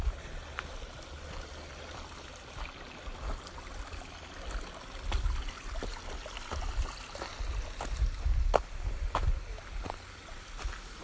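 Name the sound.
flowing stream water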